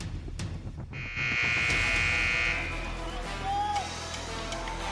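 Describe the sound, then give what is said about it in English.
A loud, steady buzzer blares for about a second and a half, marking the end of the first quarter of a basketball game in Woodward, over the constant roar and chatter of a crowd. “Back in Woodward, an exciting first quarter is at the buzzer.”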